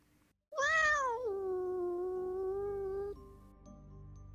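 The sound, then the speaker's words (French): A cat, Tag, lets out one long, loud meow at 2 a.m., after knocking at the parents' bedroom door, loud enough to wake everyone. It starts high and bright, then settles into a steady drawn-out tone for about two and a half seconds before breaking off. “Pourtant, cette nuit-là, il frappa la porte de la chambre de mes parents jusqu'à ce qu'il puisse rentrer et miaula suffisamment fort pour tous nous réveiller.”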